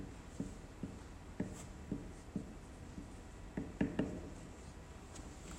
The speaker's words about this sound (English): And let's write this on our board and let's write it on our paper.